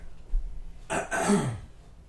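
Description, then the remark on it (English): A person gives a short, forced cough into a raised hand, two rough bursts in quick succession, fairly loud, with quiet before and after and no talking. “Here, I'll do just the hand up coughing for you.”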